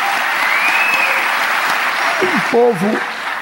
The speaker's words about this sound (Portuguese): Na verdade, palmas para o povo brasileiro.